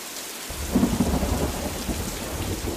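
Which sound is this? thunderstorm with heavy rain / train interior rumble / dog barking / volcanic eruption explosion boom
thunderstorm with heavy rain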